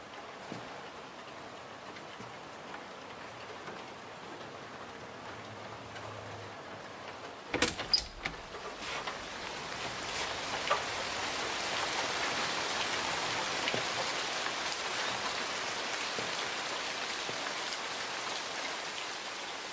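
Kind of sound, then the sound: nature, rain falling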